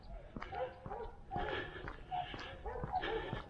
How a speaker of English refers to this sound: And now there's a pack of dogs ahead. Hope they're not unfriendly.